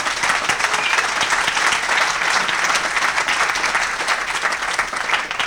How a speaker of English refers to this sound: We're the Real Estate Guys, but if you learned something about metals this week and you enjoyed it, let them know by a round of applause.